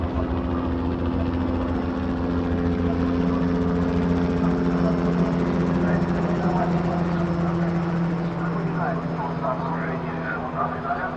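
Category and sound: vehicle, helicopter flying overhead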